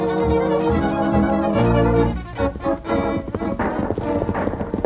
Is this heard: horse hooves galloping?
yes